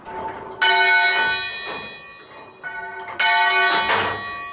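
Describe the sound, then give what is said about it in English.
Church bells fitted with an unusual slider mechanism consisting of a metal pendulum ring out loudly in a pealing sequence, two big strikes with long ringing overtones, then further overlapping chimes that hum and decay, with no voices present. “It turns out that the bells are fitted with an unusual slider mechanism consisting of a metal pendulum, which swings in a small arc when the stay makes contact.”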